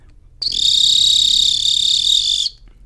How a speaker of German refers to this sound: So ein Triller. Ich benutze übrigens eine ganz normale Acme-Pfeife und meine Acme-Pfeife ist die 211,5.